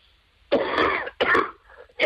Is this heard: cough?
yes